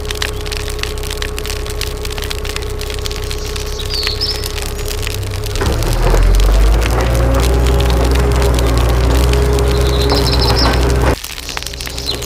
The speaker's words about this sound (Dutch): Alle pyromanen, dat is een beste bermbrand.